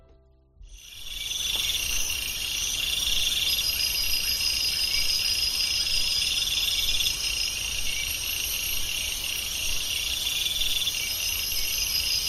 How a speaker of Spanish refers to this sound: Aquí yo de momento solo escucho grillos. No sé si tú escuchas algún otro. En general, grillos de distintas especies, pero grillos a fin de cuentas, o al menos dentro del grupo de lo que se llaman los sensíferos, que engloba los grillos,